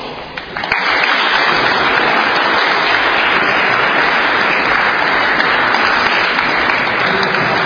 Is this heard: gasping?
no